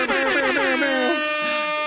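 air horn blast

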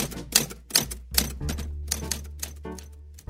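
typewriter typing

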